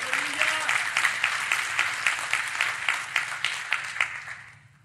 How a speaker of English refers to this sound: We clap.